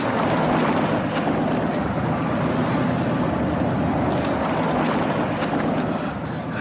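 A boat on rocking water: a steady, loud wash of water and wind noise runs continuously throughout, with no voices.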